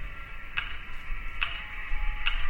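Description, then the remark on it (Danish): A steady metronome ticks three times at an even pace, each tick a sharp, bright click heard through a hissy, tinny street-corner loudspeaker, broadcast across the city from the radio tower, over a low rumbling background. “Sådan en, som musikere bruger til at holde tempoet med. Du hører lyden i dag, som du har gjort hver dag i ugevis, i månedvis.”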